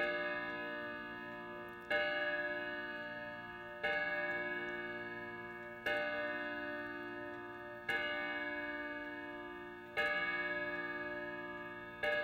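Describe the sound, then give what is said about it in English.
A clock chimes the hour, meant to be 8 o'clock, with steady, evenly spaced bell strokes about two seconds apart, each ringing tone fading slowly before the next strike. No one speaks. “See what it chimes. It's meant to be 8 o'clock now.”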